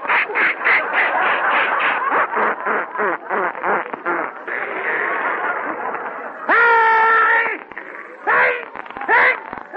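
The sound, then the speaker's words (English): A voice imitates a sneeze as a long, sputtering run of rapid puffs like an outboard motor, ending in a loud, drawn-out voiced burst and a few short snorting bursts. “I call this the outboard motor type.”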